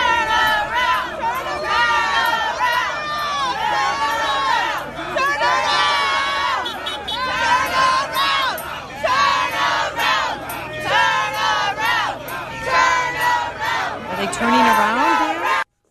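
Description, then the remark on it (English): A crowd of striking teachers shouts and jeers loudly and continuously at substitute teachers, surrounding their cars as they arrive at school, overlapping cries rising and falling in pitch for the full length with no pause. “They're surrounding the cars of the substitute teachers and offering this.”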